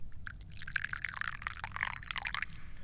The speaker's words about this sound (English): But before we do anything, I gotta drink some tea. Oh, come on, pour the damn tea already.